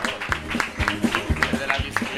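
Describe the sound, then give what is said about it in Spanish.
An audience claps together in a steady rhythm as applause for the waiters, sharp unison claps landing about twice per second, with crowd voices murmuring underneath. “Otro aplauso para los camareros.”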